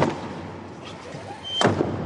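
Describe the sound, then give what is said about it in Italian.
The heavy doors of the Sistine Chapel swing shut at the start of the papal conclave with a single loud, deep boom near the end, its echo lingering in the large, reverberant chapel after a stretch of quiet room noise. “il suono delle porte chiuse della Sistina.”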